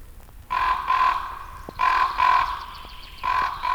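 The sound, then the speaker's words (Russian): Crows cawing in alarm, three long, harsh, raspy calls in a row with short gaps between them, fairly loud, with no talking; the parent crows are calling to each other, alarmed by a person at their nest. “Это, увидев меня у гнезда, беспокоятся и зовут друг друга родители.”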